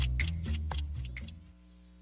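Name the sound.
grandfather clock ticking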